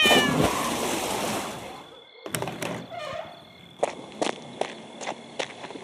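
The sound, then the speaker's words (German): A cat in water gives a sharp, pained yowl after being stepped on, over a rush of noise, then falls quiet as a run of heavy, irregular footsteps and thumps sounds, with faint vocal sounds underneath. “Komm, meine Katze. Ich hole dich aus dem Wasser raus.”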